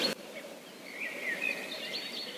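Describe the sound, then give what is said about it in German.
Faint birds chirp outdoors in a park in Philadelphia, a few thin tweets rising over a soft, steady background hiss with no one speaking. “Tut mir leid, aber ich höre nur Vögel.”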